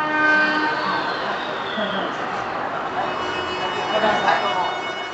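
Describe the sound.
A train rolls into the train station of the city of Imabari with a steady mechanical rumble and high metallic whines and squeals, a continuous sound lasting several seconds, with a voice faintly audible underneath.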